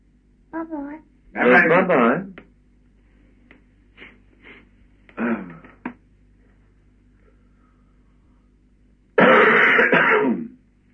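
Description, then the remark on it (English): A person coughs and clears their throat several times, fairly loud, in separate bursts with pauses between them. The last and harshest cough comes after a longer gap, with a slightly thin, phone-like tone. “In spite of my coughing, yes, and fluttering.”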